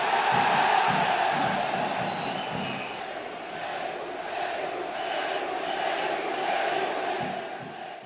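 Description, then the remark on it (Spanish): A large crowd shouts and chants "Perú" together in support of Peru, in a sustained, loud roar, with rhythmic bursts of voices rising and falling throughout before easing off at the end. “Perú, efectivamente, gritaban porque Perú envió un destacamento de su aviación que apoyó a Argentina en el conflicto.”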